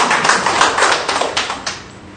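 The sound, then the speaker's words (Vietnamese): A burst of applause from a gathered audience, dense overlapping claps filling the space for a couple of seconds, then gradually thinning out. No one speaks. “Một tràng pháo tay để chúc mừng những ai nhận các thánh này làm một mạng.”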